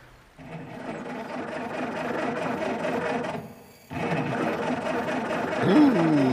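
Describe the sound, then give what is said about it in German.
A faulty car engine, broken because it has no oil in it, runs with a rough, rapid mechanical chatter, drops out for a moment, then sputters back on, ending with a brief warbling squeal over the clatter. “Das hört sich gar nicht gut an. Puh, kann das Auto repariert werden?”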